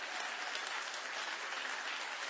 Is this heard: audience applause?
yes